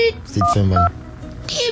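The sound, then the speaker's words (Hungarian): Telephone keypad dialing tones: a couple of short paired beeps, each a steady dual pitch, heard over a low murmur with a brief hissy rustle near the end. “Közlöm veletek, hogy ez közvetlen szám volt a halálhoz. És nem vette föl.”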